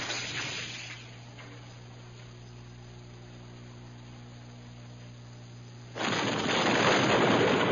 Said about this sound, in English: Before either Corrin or Ganner could offer a new plan for escape, an explosion outside shook the giant shell building.